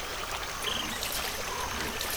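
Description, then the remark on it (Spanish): Steady flowing water, like a small stream or trickle, babbling continuously with no pauses and no voices. “diferente está el agua hoy.”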